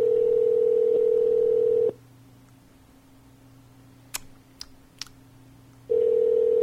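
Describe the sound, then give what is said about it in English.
A phone call ringing out on the line: a steady, loud ringback tone lasts about two seconds, falls silent for a few seconds with a few faint clicks, then starts ringing again. “Call him on your phone.”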